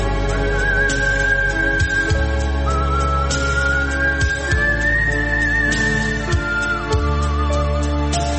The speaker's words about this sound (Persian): نمونه آهنگسازای بزرگی هستن که از سوت توی کارشون استفاده کردن، ولی فکر کنم که واقعا هنوز سوت به اون جایگاهی که باید نرسیده